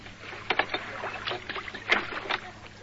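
An old wooden rowing boat crossing a river, with irregular creaks and splashes from the oars over a low steady background hum. No one speaks.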